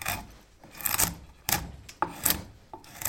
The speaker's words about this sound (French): Travail de la gouge.